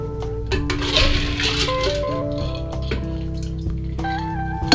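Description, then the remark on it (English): Ice and water clink and rattle against metal and a small rocks glass in a steady series of sharp taps, each leaving a sustained, twangy ringing tone that shifts in pitch, with a wet, sloshing texture underneath. “I quite like that sound, you know, like water and metal, and it makes that weird twangy noise.”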